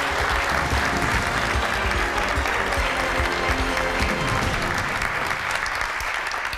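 Steady audience applause fills the whole stretch, a dense wash of many hands clapping at once, loud and sustained without pause.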